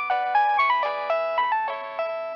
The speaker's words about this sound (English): That's when his phone rang. It was unexpected. And it was one of the officials of the ministry.